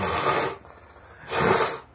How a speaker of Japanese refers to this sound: また血出るで、鼻かんだら。